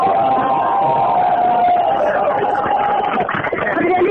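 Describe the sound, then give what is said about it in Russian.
A loud, dense crowd cheers and shouts continuously as arriving cars honk constantly. A steady car horn tone holds through most of the stretch, with more honks and voices breaking through near the end. “машини, які приїжджають з ними, вони весь час сигналять і відповідно викликають реакцію людей, тому так достатково шумно.”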